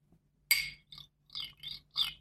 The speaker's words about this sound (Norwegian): Jeg tror jeg skal finne fram en kniv og et glass. Da får jeg sånn... Ikke brødkniv. Nei, ikke brødkniv. Ok, nå har jeg en vanlig smørk. Og vindu da. Ja, jeg kan ta kniv på vinduet, eller kniv på et drikkeglass.